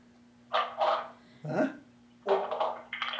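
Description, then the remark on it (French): A dog barks about five times in quick, uneven bursts, loud, over a faint steady electrical hum, with no one speaking. “Chien a pogné le téléphone. Il va se faire enregistrer.”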